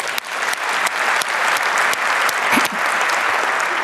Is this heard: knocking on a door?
no